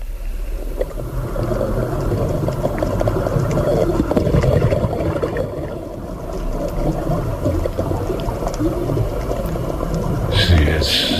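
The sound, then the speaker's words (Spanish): The sea heard from underwater: a dense, muffled wash of low rumbling and bubbling, steady and enveloping throughout, with a brief brighter fizzing burst near the end. “Pero a ti te he buscado otro sonido, que es el sonido del mar por dentro.”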